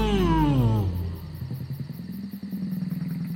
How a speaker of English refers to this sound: The largest Satellion had a big colorful ring around its neck. It let out a large roar as we drove by.